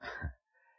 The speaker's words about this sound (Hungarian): Egészségedre.